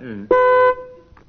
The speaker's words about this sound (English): Ready, teams? I'll use my buzzer to start you off. Are you all set?